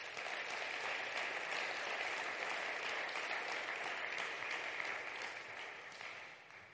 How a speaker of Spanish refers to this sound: ¿Amén? Dar un aplauso al Rey.